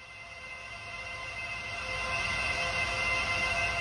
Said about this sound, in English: That noise, like filled glass carried away on a cello, is a crypto mine. I'm in Bono, a small community in rural Arkansas near a little church and a field of cows.